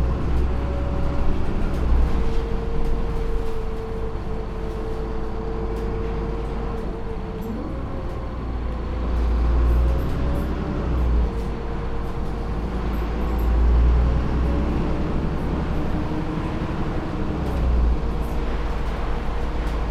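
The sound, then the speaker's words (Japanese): Steady low rumble of a bus engine and road noise from inside the vehicle, with a droning tone that shifts pitch as it accelerates and slows, continuous throughout. “バスが停留所に停車してから席をお立ちください。”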